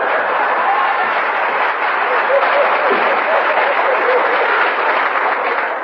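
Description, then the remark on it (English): A full audience applauds steadily, a dense wash of clapping that holds at an even, fairly loud level for several seconds without fading. “Applause.”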